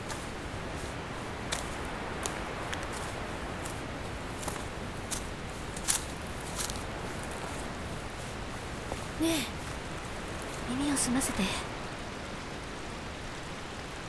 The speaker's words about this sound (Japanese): 水の流れる音がする。川があるなら都合がいいわ。水の音がする方へこのまま行きましょう。